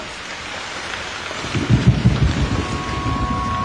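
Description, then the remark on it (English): A steady wash of heavy rain fills the scene, joined midway by a deep, rumbling roll of thunder that swells loudly and then fades back under the downpour. “There was a storm.”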